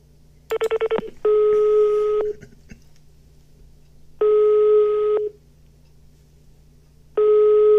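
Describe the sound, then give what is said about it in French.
A rapid string of about six short keypad tones as a phone number is dialed on a phone taken from its case, followed by long, evenly spaced ringback tones repeating over a low steady hum, with no voices. “Je sortis mon téléphone de son étui et composai le numéro qui me parut le plus familier.”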